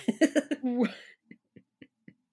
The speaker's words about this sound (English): Oh, sorry, just trying to stifle a cough.